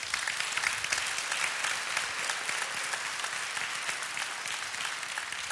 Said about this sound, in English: Come on, give the Lord another hand clap.